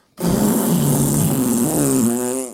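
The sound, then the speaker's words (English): A voice blows a long, buzzy raspberry imitating a fart, sustained for about two seconds, with a wobbling pitch that rises toward the end before cutting off. “It was the nastiest fart ever. And she was just under the covers and I just went.”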